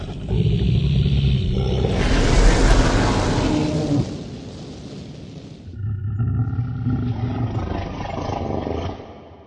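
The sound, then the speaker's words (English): A fierce, growling roar rumbles loud for several seconds, breaks off briefly, then comes back in a second, slightly softer drawn-out roar. No one speaks. “In fact, it sounded a bit like a kitten trying to be fierce.”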